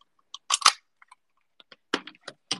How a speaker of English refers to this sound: You can hear the keys and my necklaces.